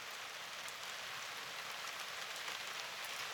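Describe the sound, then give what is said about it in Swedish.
Steady rain pelts down in a dense, hissing wash of small sharp drops over a church hill in Gustavsberg on an autumn day, constant with occasional brighter spatters, and no voices. “Regnet piskar små vassa droppar över kyrkbacken i Gustavsberg.”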